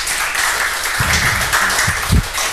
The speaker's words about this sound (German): Also ein Applaus, viel Spaß. Dankeschön.